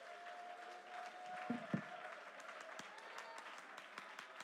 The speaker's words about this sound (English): Okay, let's use our physical man and let's put forth some effort with a hand clap and with our voices lifted again. Come on, that's it. Come on, great men of God.